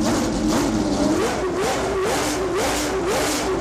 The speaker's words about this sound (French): Écoutez bien, un coupé avec un moteur satanique de 1850 chevaux, alors qui nécessite bien sûr un carburant spécial